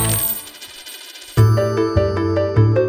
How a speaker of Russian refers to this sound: Звон денег в каждой новости.